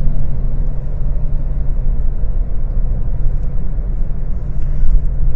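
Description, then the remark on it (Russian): Steady, loud low-frequency road rumble inside a moving car traveling at over 100 km/h on the way to a conference, a continuous engine and tire drone with faint higher hiss, no talking and no distinct events. “Вот такие рассуждения на разные айтишные темы из шумной машины.”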